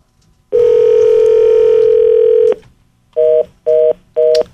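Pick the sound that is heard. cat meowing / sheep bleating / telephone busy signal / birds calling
telephone busy signal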